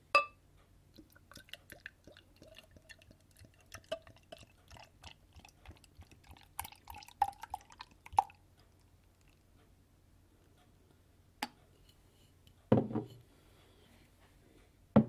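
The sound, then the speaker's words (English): A 550 ml bottle of dark wheat beer is opened and poured into a glass, a soft gurgling, crackling stream whose tone rises as the glass fills, followed by quiet fizz and a few sharp knocks. “As normal, we pour it into a nice glass.”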